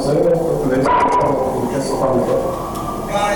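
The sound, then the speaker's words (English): A dog barks amid a loud, chaotic scene of people shouting over one another, with the barking partly buried under the constant crowd noise, recorded on a cell phone video taken from a bird's-eye view above the scene. “You can hear people shouting, a dog barking, then sirens approaching.”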